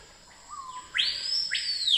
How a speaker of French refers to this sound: Alors là, on passe à un oiseau.